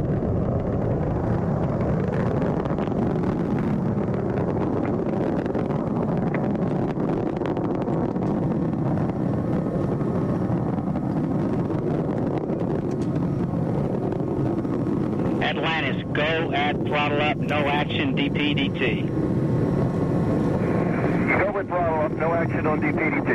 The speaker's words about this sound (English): 40 seconds into the flight, the three liquid fuel main engines throttling back to 72% of rated performance